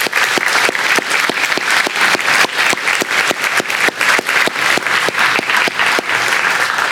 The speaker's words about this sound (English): If we could show our appreciation to them with a round of applause, that would be most appropriate.